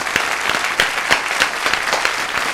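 An audience claps steadily, a dense wash of many hands with sharper individual claps popping through, fairly loud and sustained throughout with no voices.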